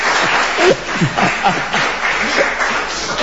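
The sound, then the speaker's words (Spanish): A crowd applauds steadily, a dense wash of many hands clapping at once, with a few voices and faint laughter mixed into the ovation. “No aplaudan que no”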